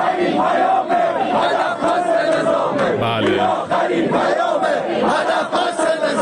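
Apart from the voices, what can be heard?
protest crowd shouting slogans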